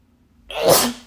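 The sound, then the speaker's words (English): A single sharp sneeze bursts out after a moment of quiet, loud and close, with a breathy hiss that fades quickly. No one speaks. “There's your sneeze,”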